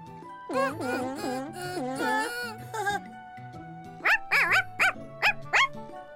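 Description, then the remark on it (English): A person imitates a puppy's yapping with a string of short, high barks, first in a few longer groups and then in rapid, evenly spaced yips, fairly loud over a soft musical background. “I thought I heard a puppy yapping. No, that was me.”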